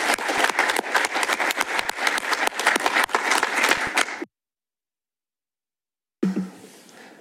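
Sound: warm applause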